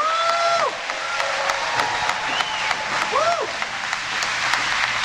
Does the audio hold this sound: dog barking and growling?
no